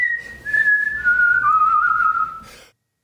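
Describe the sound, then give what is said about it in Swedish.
A man whistles a short melodic tune, the Internationale, clear, with sustained tones gliding downward over a few seconds before stopping abruptly, faint background noise beneath. “Där tog visslingen slut och det var Internationalen som din man för övrigt visslade an, eller hur?”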